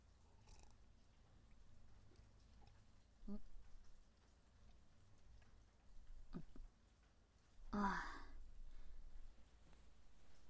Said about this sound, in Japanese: 雨は急に降られちゃうとちょっとあれですけど、こうやってお家の中から眺めるのはいいですよね。綺麗で音も心地いいし。